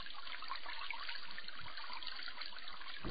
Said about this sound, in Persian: وقتی شیر آب رو در خونه باز میکنید و آب سرد و زلالی جاری میشه، کمتر به کمبود اون فکر میکنیم.